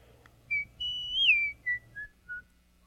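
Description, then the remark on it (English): A man, an executioner in a dungeon, whistles a short, idle tune while swinging his axe: a brief note, a long wavering held note, then a few shorter notes stepping downward, with no talking and a faint low hum beneath. “The executioner was whistling and swinging his axe idly, because at the moment he had nothing to do.”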